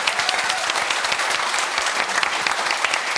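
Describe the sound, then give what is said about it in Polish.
An audience applauds the performers after a stage performance, many hands clapping in a dense, continuous wash of sharp claps at a constant loud level, with no voices standing out. “Wielkie brawa!”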